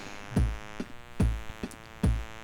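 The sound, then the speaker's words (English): A clock click track, heard through a microphone, ticks steadily over a constant low hum, alternating heavier thumping beats with lighter, sharper clicks at a quick even pace. No one speaks. “That zit zit zit zit zit, that's the clock click.”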